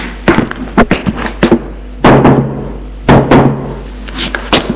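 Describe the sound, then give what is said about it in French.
Knocking on the door of a mother's bedroom: a run of sharp, irregular raps, then two heavier, longer thumping bursts with a low hum. No one speaks. “Il va frapper à la porte de la chambre de sa mère pour lui dire au revoir.”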